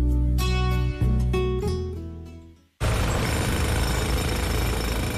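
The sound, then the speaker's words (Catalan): A sustained tonal, droning sound fades out, then after a brief gap a loud, dense jackhammer drilling noise from construction works on the Rodalies commuter rail network in Catalonia starts abruptly and runs steadily to the end, unrelenting. “Les obres de Rodalies tindran el seu costat bo. Un que sona molt millor.”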